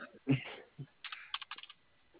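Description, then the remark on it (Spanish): Quick keystrokes tapped on a cash register keyboard: a few scattered presses, then a rapid run of crisp clicks, with faint muffled bumps and a hint of voice in the background. “El teclado de la caja.”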